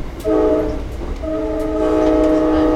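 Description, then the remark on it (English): A train horn sounds in two long, loud blasts of steady chords over the low rumble of a passenger train at a train platform in Exeter. “On a train platform in Exeter,”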